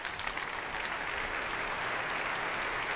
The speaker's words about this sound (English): Well, that applause was for Yuri Tuchinsky, leader of the BBC Philharmonic, taking his place.